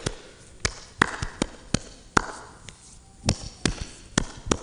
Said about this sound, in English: Just clapped my hands, something like that, while I'm praying. And I picked up that there was a cadence to the clapping.